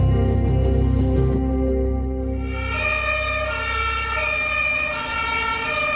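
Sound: fire engine siren approaching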